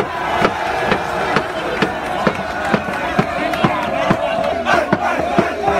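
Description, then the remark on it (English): A loud crowd of teens from Covington Catholic High School in Cincinnati chants and cheers around a small group of Native Americans at a pro-life rally in Washington, D.C., with sharp rhythmic claps or stomps landing about twice per second under a continuous roar of many voices. “They were videotaped chanting and cheering around a small group of Native Americans.”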